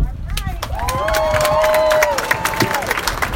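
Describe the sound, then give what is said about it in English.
An audience claps steadily throughout, many hands at once, while a voice rises in a long, high cheering whoop over the applause and crowd noise. “So y'all gotta clap a little louder than that.”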